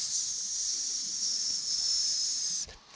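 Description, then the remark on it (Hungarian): A steady, high-pitched hiss of air escaping from a valve opened a little on something pumped up with air, holding at an even loudness for about two and a half seconds before cutting off abruptly. No one speaks. “Igen, és akkor majd felpumpáljuk, de este mielőtt elmegy aludni, egy picit megnyitjuk a szelepet, hogy csak úgy...”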